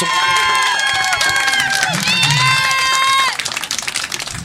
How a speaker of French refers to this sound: Ben oui, applaudissez-les quand même.